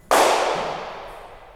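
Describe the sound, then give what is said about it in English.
A single sharp crack of a .22 caliber blank gunshot in an empty mansion, a loud sudden bang followed by a long, ringing tail that fades slowly over more than a second. No voices. “So it sounds like a 22 blank because I saw the play.”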